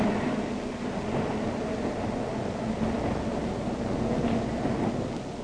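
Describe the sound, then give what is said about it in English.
A steady, loud mechanical rumble of an elevated train in New York City running from the Battery uptown, a continuous roar with a low droning hum and faint rattling, with no pauses and no voices. “Ride the elevated train all the way from the Battery far uptown.”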